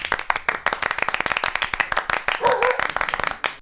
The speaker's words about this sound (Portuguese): Gente, uma salva de palmas para minha amiga